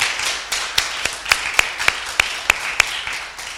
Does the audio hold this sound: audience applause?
yes